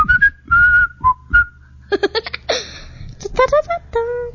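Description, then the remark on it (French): A short whistled jingle of the radio station Radio Bonheur, several clear, sustained notes, followed by a burst of giggling and laughter mixed with more whistled pitches, loud. “Radio Bonheur, la radio des siffleurs.”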